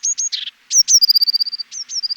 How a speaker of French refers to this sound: Tu titi, tu titi. C'est toujours comme ça des petits motifs un peu métalliques. Répétez plusieurs fois. C'est la mésange charbonnière.